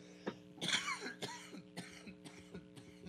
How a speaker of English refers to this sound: I'm coughing because I want to laugh.